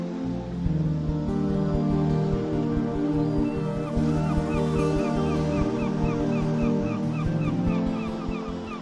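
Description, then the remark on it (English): Birds call steadily at dawn over a low, continuous wash of water, some flying overhead and some diving into the water for fish, their honking and chirping voices overlapping throughout without pause, fairly loud. “See the birds that are active early in the morning, some flying overhead, some are already diving into the water looking for fish.”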